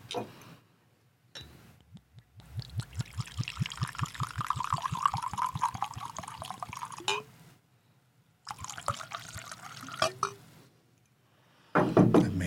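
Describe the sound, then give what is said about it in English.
Japanese whiskey glugs from a bottle into a glass, a quick rhythmic gurgle that settles into a steady pour, then stops, followed by a couple of shorter pours. “Now my ID is going to smell like Japanese whiskey”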